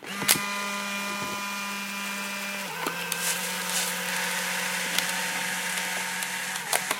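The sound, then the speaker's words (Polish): An Instax instant camera powers on with a sharp click and takes a photo, a small motor whirring steadily for several seconds, its pitch dipping partway through, with a few more mechanical clicks along the way. “Oto uruchamiam właśnie aparat błyskawiczny, aparat Instant, i wykonuję zdjęcie.”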